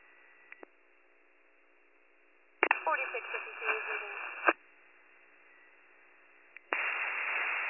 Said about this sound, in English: Your radio's not making it go again. Still static.